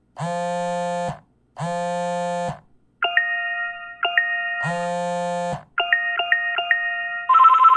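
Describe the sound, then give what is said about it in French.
A mobile phone ringtone plays loudly: three long buzzy electronic tones alternate with quick chirpy melodic notes in a repeating pattern. No one speaks. “J'entends ton téléphone.”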